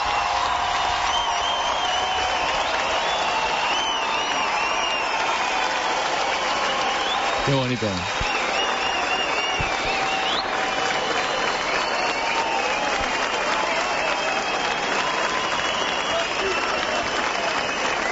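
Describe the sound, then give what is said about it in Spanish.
Sustained, dense applause from balconies, from the sides of Calle Real and from behind the orchestra during the Danza de los Enanos procession, a steady loud clatter of many hands with no break, while a man briefly speaks over it. “Aplauso desde los balcones, desde los lados de la calle, desde detrás de la orquesta.”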